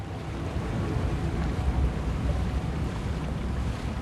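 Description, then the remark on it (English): A police boat's steady engine drone churns as it sails toward a dock in daytime, mixed with rushing water and gusty wind noise, holding at an even, fairly loud level throughout with no voices. “daytime, a police boat sails toward a dock.”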